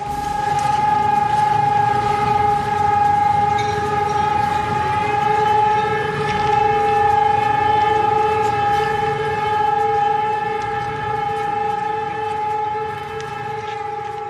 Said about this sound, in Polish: O godzinie 12 rozniósł się w mieście dźwięk syren jako symboliczny hołd złożony powstańcom.